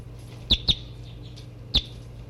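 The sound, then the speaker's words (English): Three short, sharp calls from a female bird about half a meter away: two in quick succession, then one more after a pause. Each is a bright, high chirp over a low, steady background hum, with no talking. “I'm half a meter from the new birds.”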